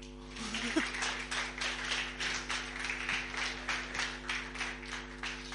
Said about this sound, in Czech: Můžeme zatleskat.